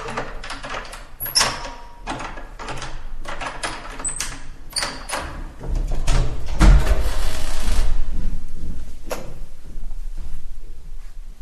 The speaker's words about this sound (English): Okay, now let me unlock the door.